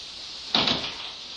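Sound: door being opened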